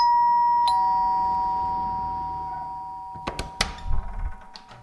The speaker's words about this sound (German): Heute klingeln wir bei Claudius.